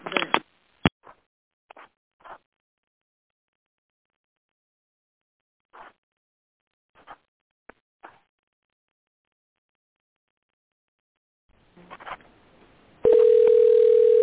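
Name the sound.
phone call ringing tone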